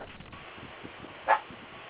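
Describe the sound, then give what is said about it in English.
A pet dog lets out one short, sharp bark partway through, standing out clearly against an otherwise quiet background hum with no one speaking. “My dog didn't like that.”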